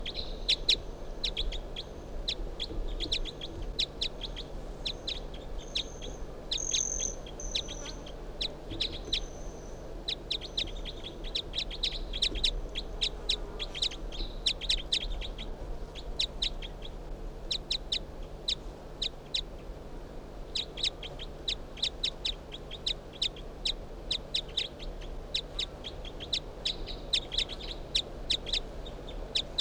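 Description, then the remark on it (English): A bird, number 362, calls in response to a played recording (recording 361), over and over in quick, sharp, high chirps that keep up a steady, busy rhythm for the whole stretch, over a low constant hum, with no one speaking. “So recording 361 in response to bird 362, who I just brought out here.”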